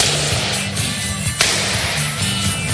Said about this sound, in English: You can hear this little echo behind my claps. And I think that was what … liked very much, with this big hole by the wall.